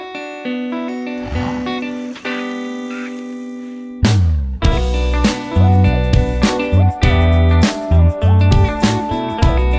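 A band's music track, from a selection of the Saturday night of the Austock Festival, opens with a soft, sustained melodic intro, then a full band crashes in with punchy drums, deep bass and layered instruments, loud and driving to the end.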